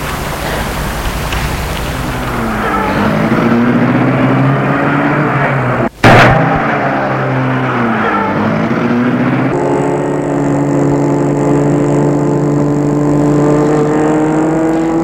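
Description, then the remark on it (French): A car engine is started and runs steadily, its hum rising and falling through gear changes, with a brief sharp click partway through before the motor settles into a higher, even drone. “Il entre dans la voiture et François la met en route.”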